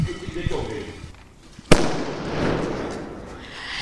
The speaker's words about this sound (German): demonstriert für uns mal die Wucht von so einem Böller. Mit Hilfe eines alten Topfes. So, jetzt geht los. Ich zünde an. Und Frosch drauf.